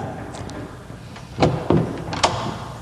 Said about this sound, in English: Now I'll try just knocking on the door. Yeah, why didn't you do that first? I forgot that you could do that.